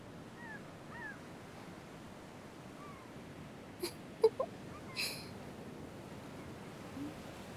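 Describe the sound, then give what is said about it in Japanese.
Faint, mewing calls of black-tailed gulls drift in a few times over a steady wash of sea surf, with several short sharp knocks partway through. “あの海猫たちって何考えながら飛んでるのかな”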